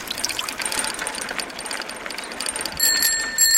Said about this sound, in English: I think actually the bell's the most important tool, the most important tool on a bike. I never use it really to ask people to get out of the way. It's more a greeting.